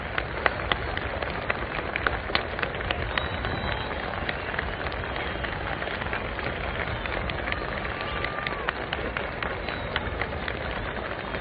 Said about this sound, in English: The president is standing there now at the speaker stand, acknowledging the plaudits of the crowd, bowing, about ready to speak, and here he is.